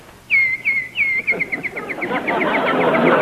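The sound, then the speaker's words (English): A raucous bird chirps in a quick series of sharp, high notes that start evenly spaced and then speed up into a rapid run, with a rising wash of noise underneath. “I believe that beating on that pan actually drove that raucous bird away. We haven't heard a single chirp all evening.”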